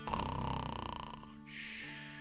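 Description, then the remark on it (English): A single exaggerated snore, apparently a voice imitating a donkey: a rattling, buzzy inhale that fades out, followed by a long breathy whistle on the exhale, fairly loud. “Donkey snoring.”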